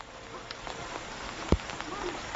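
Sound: rain falling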